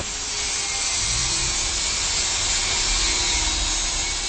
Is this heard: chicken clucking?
no